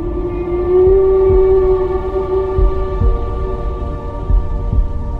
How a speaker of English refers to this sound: Imagine sitting in the belly of a boat that's vibrating with the yawn of such a strange sound. Of course you would misinterpret it. Who would imagine that whales could sing?